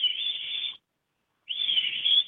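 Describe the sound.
A person whistles a bird-call imitation in two clear, sustained high notes separated by a short pause, fairly loud, with no talking.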